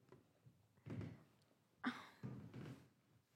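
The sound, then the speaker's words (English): A few soft creaks and muffled thumps from a squeaky bed shifting under someone's weight, in short irregular bursts with a brief sharper squeak in the middle, fairly quiet. “And I have a very squeaky bed.”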